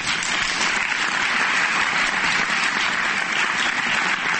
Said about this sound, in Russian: Зрители аплодировали долго и искренне.